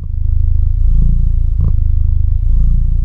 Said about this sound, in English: Nothing says feline contentment like a good, rolling purr. Like many cats, Bilbo can be expressive. Unlike many cats, he has a big platform with his own podcast. It's called The Bilbcast, and in each episode, Bilbo purrs continuously for 30 minutes